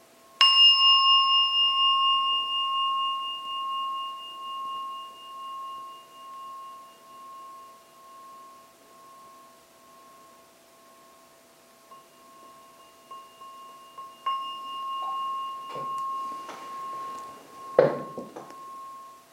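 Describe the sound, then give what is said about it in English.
A meditation gong is struck once to end a meditation and left ringing, its clear sustained tone slowly fading over many seconds, with a few soft knocks and clinks near the end. “As I now ring the gong to end the meditation.”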